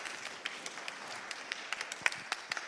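An audience applauds to call a guest forward, a dense, steady patter of many hands clapping with a few sharper claps standing out, sustained evenly at a moderate level with no voices over it.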